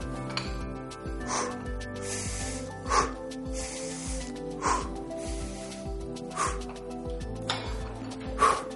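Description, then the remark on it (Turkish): Rapid, heavy breathing of a person who has just exercised, each loud, breathy rush of air coming in a quick steady rhythm over a sustained musical tone in the background. “Gördüğünüz gibi solunum oldukça hızlandı.”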